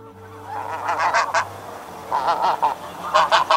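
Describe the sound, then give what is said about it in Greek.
A goose honks loudly in three bursts of harsh, nasal calls, each a rapid run of honks, with no one speaking. “Η χήνα κρόζει δυνατά.”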